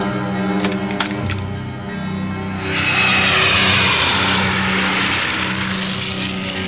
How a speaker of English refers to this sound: I'll talk to you after the stereo plane sound effect.